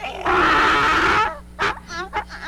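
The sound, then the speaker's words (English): A donkey brays loudly: one long, harsh, raspy blast followed by several shorter, wheezing hee-haw gasps, with no other sounds around it. “It's a donkey.”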